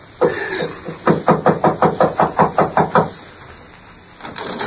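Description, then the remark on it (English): A rapid run of about ten firm knocks on a wooden door, evenly spaced, preceded by a short burst of noise and followed by quiet. “Knock on the door”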